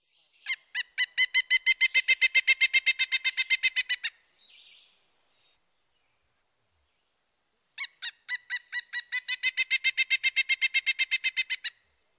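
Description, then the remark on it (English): A pileated woodpecker gives two loud, ringing series of rapid repeated notes, each lasting about four seconds, separated by a short pause. The calls sound clear, with no voices. “next, the pileated.”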